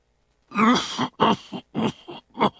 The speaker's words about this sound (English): A cough you just can't shake off could be a sign of cancer. It's probably nothing serious, but finding cancer early makes it more treatable.